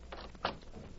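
door being opened

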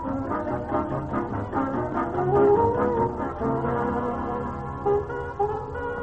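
car sound effect

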